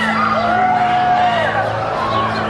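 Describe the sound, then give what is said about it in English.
A large outdoor crowd on the street outside a court cheers loudly and continuously as a car leaves, with whoops and shouts rising over a dense wall of voices, filling the whole moment. “The crowd surge on the street to watch the car leave.”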